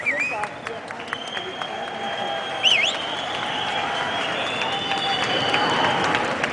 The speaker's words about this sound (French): Mais le moment le plus émouvant pour eux a été sans aucun doute la minute précise où ils sont descendus du train, applaudis par des dizaines de personnes dans la gare de Munich.